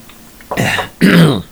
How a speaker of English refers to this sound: Needed more coffee. Sorry about all the fucking coughing at the microphone there.